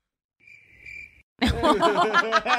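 A short, steady high-pitched cricket chirp plays for about a second, followed after a brief pause by loud laughter from a group of people.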